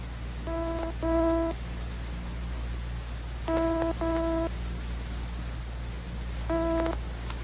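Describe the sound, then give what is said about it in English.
A telephone ringback tone purrs down the line on a call to county police headquarters, in paired bursts, a double ring repeating every few seconds over a steady low line hum, with no one speaking. “It's ringing.”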